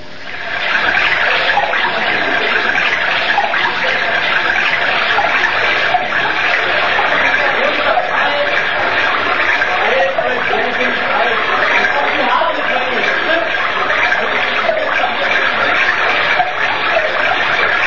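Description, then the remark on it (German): A strong, steady rush of water sprays from a garden hose that has just been turned on, without a break, a loud hiss that holds evenly from start to finish with no voices over it. “dreh den Schlauch jetzt auf.”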